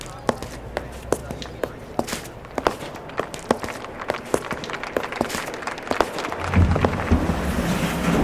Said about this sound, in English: their heels clicked like applause as they climbed up the steps to go inside.